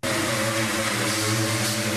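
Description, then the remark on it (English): A power sanding tool made by Temple Allen Industries in Maryland runs steadily, a loud continuous motorized whir with a low hum and bright hiss layered over it, holding an even pitch from start to finish. “That's a sanding tool made by Temple Allen Industries in Maryland.”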